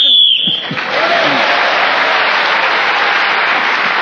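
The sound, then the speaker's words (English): A single sharp, high-pitched whistle blast, blown to end a round of a panel game, cuts off Paul Merton's talk, followed at once by loud, sustained applause and cheering from an audience that carries on for several seconds. “In this game, whoever is speaking when the whistle goes gains an extra point, and on this occasion it was Paul Merton who has a strong lead at the end of that round.”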